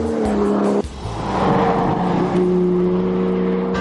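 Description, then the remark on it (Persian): A 2013 Porsche 911 Carrera C4 drives with a steady, loud engine hum that briefly drops as it shifts gear, then settles into a strong, even drone. No one speaks. “ولی اکنون جواب ما به این سوال پورش سری 911 و بدون تردید پورش 911 کاررا C4 سال 2013 است.”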